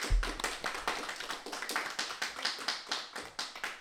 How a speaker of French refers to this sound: On peut vous applaudir bien fort.